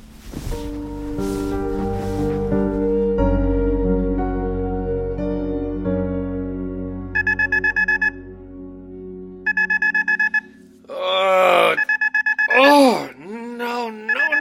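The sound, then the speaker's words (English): An alarm rings in bursts of rapid, high-pitched electronic beeping, three separate bouts, with a groaning, wavering voice between them after a long stretch of low droning tones. “Alarm off. Alarm off.”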